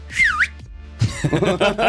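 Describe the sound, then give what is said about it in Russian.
A short whistled tone swoops down and back up for about half a second, clear, followed after a brief pause by a man talking. “Эх, умел бы свистеть, посвистел бы.”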